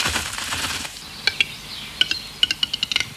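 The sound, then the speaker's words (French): A western capercaillie's courtship display in the Vosges, France: dry, knocking clicks that start sparse and speed up into a quickening rattle, with faint high squeaky notes over a soft, hissy background. No one speaks. “Il s'agit du grand tétras, le plus gros oiseau forestier en Europe, dont les effectifs fondent autant que la neige dans laquelle ils vivent.”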